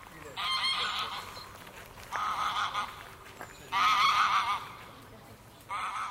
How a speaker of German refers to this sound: Es sind bis zu 100, 120 Gänse, weil viele vom Altwarnbüchner See auch hierher kommen. Das weiß ich von den Beringungen her und weil es auch ein paar Hybriden gibt, die man wiedererkennt. Und das ist für so einen kleinen Seebereich zu viel.